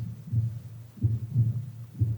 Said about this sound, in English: you can actually hear the heartbeat of the one next to you